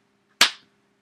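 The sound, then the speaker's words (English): A single sharp hand clap for a recording slate rings out on its own, a bright, loud snap that fades within a fraction of a second over a faint low hum. “Doesn't he need to clap too for the slate, though?”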